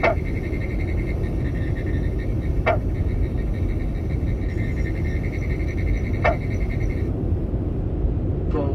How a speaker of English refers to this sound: the single notes of the territoriality call of individual green frogs can be heard throughout the summer